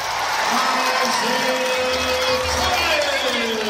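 A large basketball arena crowd of Boston fans roars steadily, cheering and clapping for a player of the opposing Phoenix team in a dense, continuous wash of noise, with a few higher whoops and a faint tonal whistle-like line running through it.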